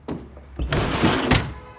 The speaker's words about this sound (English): She crosses to her living room window and opens it.